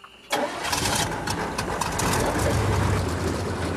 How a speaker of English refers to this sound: An airboat glides over the water, so any animals swimming below us will be safe. The secret to this unusual boat is the giant fan. As the fan turns, it pushes out a stream of air and the boat moves forward.